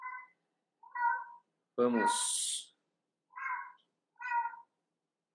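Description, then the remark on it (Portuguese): A female house cat, one of several kept there, meows five times in close succession, short evenly spaced cries with a longer, louder, harsher call in the middle, with quiet gaps between. “É o seu gato”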